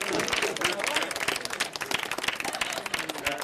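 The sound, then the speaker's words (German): Many people clapping at once, a dense, steady patter of applause, with faint voices mixed into the crowd noise; people applauding at windows and on balconies for hospital and care workers at the start of the pandemic. “Ehrlicher, dankbarer, fröhlicher Applaus an den Fenstern, auf Balkonen für die Menschen, die mittendrin an ihrer Belastungsgrenze arbeiten, in den Krankenhäusern”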